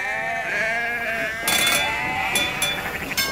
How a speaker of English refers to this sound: Red Gauntlet ploughed on, although the familiar shug, shug, shug, shug sound of the paddles was hard to hear under the constant bah, bah, bah, bah of 1,000 sheep.